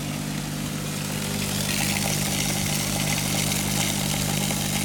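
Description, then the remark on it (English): A loud, steady, low mechanical buzz from elevators in the lobby of Sarnat's building drones without a break, nearly drowning out the faint, continuous hiss of the lobby's water fountain trickling underneath. No one speaks. “You can barely hear the water because of the loud buzzing of the elevators.”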